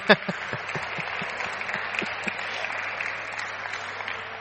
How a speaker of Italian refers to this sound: Un applauso fatemelo, no?